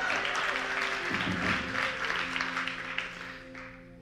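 audience clapping and cheering

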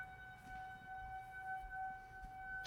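sirens wailing outside

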